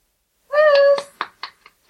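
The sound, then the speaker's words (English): A cat lets out one clear, drawn-out meow, followed by a few short, quieter bursts of sound, as people try to coax the cat to come to them. “Okay, we are currently trying to get the cat here.”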